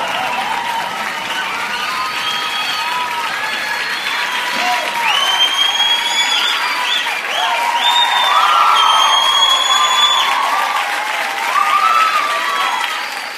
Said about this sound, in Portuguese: palmas, gente.